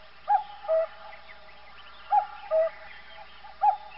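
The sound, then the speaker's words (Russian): A cuckoo calls its soft two-note song three times in steady succession, clear, with short quiet gaps between each call and no other sounds around it. “и кукушка не молчит, ку-ку-кук.”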